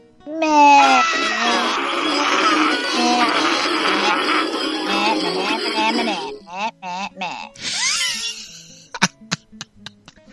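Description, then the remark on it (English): Several people scream together loudly and at once on a countdown, a dense overlapping wall of voices lasting about six seconds, then dissolving into scattered breathless laughs and short yelps. “Okay, you guys start screaming.”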